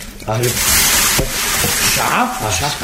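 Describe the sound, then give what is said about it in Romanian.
A steady hiss and crackle of a fire being put out with a bottle of water taken from the table, sizzling loudly for a few seconds while voices talk over it. “Stinge focul. Nu sting. Nu vrei să-l stingi? Ba, da. Mai repede, cu sticla de apă, de pe masă.”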